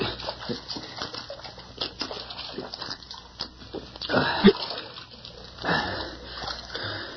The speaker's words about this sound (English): it's water. Uh-huh. Take a drink. Uh-huh. Water. Drink. Oh, yes. Yes, drink. It drinks back.